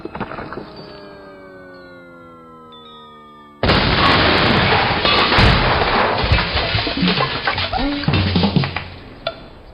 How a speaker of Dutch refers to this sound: De ontploffing bleef ook bovengronds niet onopgemerkt. Er kwam een plotseling einde aan de nieuwe boortoren en het zoeken van de professor.